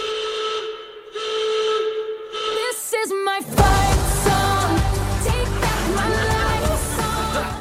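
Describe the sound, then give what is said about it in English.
A loud, shrill alarm blares in long sustained whistle-like tones, breaks into a few rapid stuttering blasts, then gives way to a dense, rumbling clatter with wailing tones still running through it. “He had a specific alarm set if she got within 500 miles of that island. Here's the alarm.”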